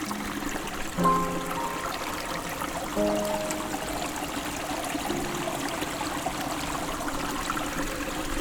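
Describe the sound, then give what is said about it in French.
A mountain forest stream of clear water trickles and laps steadily, a continuous wash of flowing water with brief gurgling bubbles rising above it now and then. No voices. “C'est dans ce dos clapotis,”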